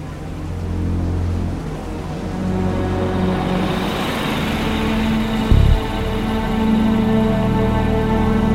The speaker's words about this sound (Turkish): Mevlüt ve Abbas, bekledikleri arabanın içinden onu gördüler. Kerem'i arabayla takip ediyorlar.